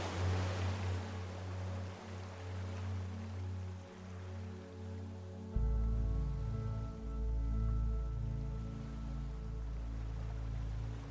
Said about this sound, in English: the ocean waves seem to wash over you in waves of relaxation as you descend into a deeper state of relaxation.